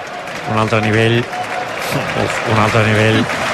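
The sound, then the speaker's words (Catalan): A stadium crowd at a Barça football match applauds the German footballer Gundogan in a broad, continuous wash of clapping and noise, with a voice briefly rising over it twice. “Aplaudiments pel futbolista alemany.”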